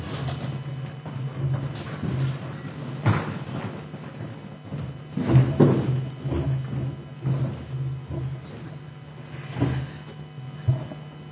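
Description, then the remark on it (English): A few dull thuds and knocks with a steady low hum, as a door is pushed shut, with softer shuffling noises around it and no talking. “So I think by now I've done my job, because the door is closed, and we can really start now with this paper.”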